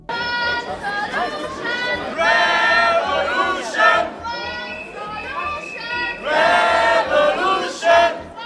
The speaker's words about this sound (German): Das hat man heute Nachmittag auf der Strasse zu Biel gehört. Leute sind im Pfeifen und im Rufen.